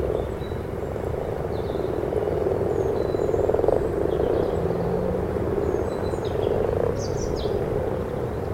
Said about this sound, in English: I've now got two frogs literally a foot in front of me. Now it's starting to get warmer, they're starting to get a lot more vocal.